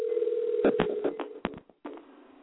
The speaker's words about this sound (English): So hold on. Let me type your number in so we can call you right back because the lines are packed and you're not gonna be able to get back on. Hold on. Your other line should be ringing